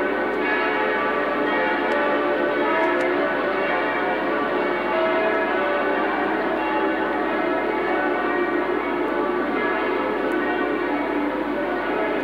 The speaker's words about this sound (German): Die Glocken läuten, so wie wir es im Hansaviertel heute Nachmittag schon erlebt haben, dass die Glocken der Kirchen der verschiedenen Konfessionen zu läuten begannen, als Ihre Majestät zum Hansaviertel kam. So auch hier in der Kolonnenstraße.